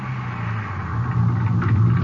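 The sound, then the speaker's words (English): A car engine hums low and steady from inside the vehicle, a continuous road rumble that swells slightly as the car pulls over on the highway around 4 a.m., about 20 minutes from Odessa. No one speaks. “Guess I can stop any place on this highway.”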